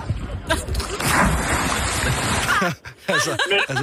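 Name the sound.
person jumping into water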